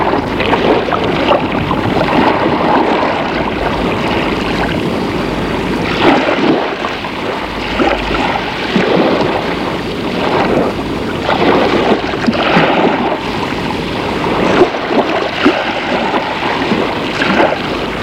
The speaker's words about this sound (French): Soleil, la chaleur, une chaleur étouffante avec un vent chaud qui ne sert qu'à amener le sable.